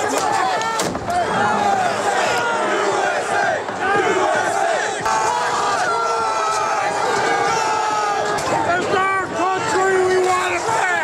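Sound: crowd shouting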